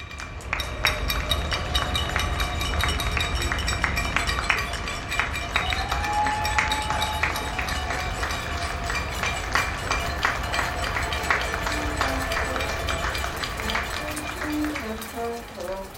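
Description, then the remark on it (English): Many people in Barcelona and Toronto clap, cheer and whistle together in the nightly cheering for healthcare workers, a steady, dense wash of applause that keeps going throughout, with a rising whistle midway and a few short horn-like toots near the end. “It begins with a recording of the nightly cheering for healthcare workers in Barcelona and Toronto.”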